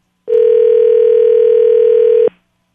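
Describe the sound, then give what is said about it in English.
A single steady electronic ring tone of an outgoing phone call to a burner phone sounds for about two seconds, loud and clear with no voices, starting and stopping abruptly. “The burner phone is being called as we speak.”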